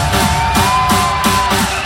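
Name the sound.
crowd screaming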